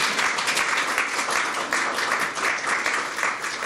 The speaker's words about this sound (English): You can applaud that if you want. I can tell you'd like to.